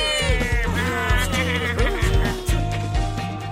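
Several drawn-out cat meows with rising and falling pitch, fairly loud, over steady background music that continues throughout.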